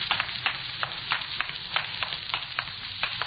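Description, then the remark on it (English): Steady water running inside a building, a continuous hissing rush with small crackling spikes and splashes throughout, moderately loud and with no voices. “You hear water running? Sounds like it's coming from inside.”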